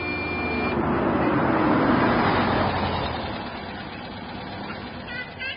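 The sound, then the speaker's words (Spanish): The engine of a used car rumbles as it arrives back from the city, swelling in loudness over a couple of seconds before easing back into a steady idle. “Simón fue a la ciudad y se compró un auto usado”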